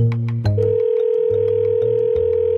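A steady electronic telephone ringback tone hums continuously for a few seconds as a call is placed to the owner of a rice stall in Silver Spring, Maryland. It is loud, with a faint musical bed underneath and no talking.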